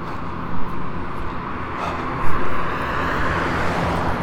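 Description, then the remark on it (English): A steady roar of traffic with a low engine rumble, vehicles passing in a continuous wash of road noise, with no voices. “Ooh, so many cars on this vacation.”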